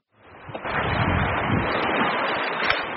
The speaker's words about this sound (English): sitting on the yellow rubber edge of a huge inflatable raft as the boat splashes through the Yampa River. We're flying along.